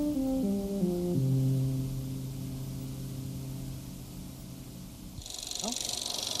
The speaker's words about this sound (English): And that one is a barn owl. It's a very colorful owl. Beauty. Its face looks a little like a monkey's yes, face, it does.